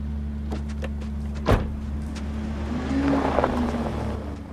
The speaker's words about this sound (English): The car moves away.